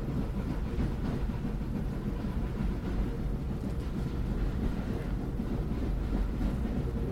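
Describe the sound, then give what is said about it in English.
A Pullman train rumbles steadily along the rails across the plains of Texas, a continuous low-pitched roll with faint rhythmic clatter, with no voices. “Sheriff Potter's facing his high noon as the train rolls on”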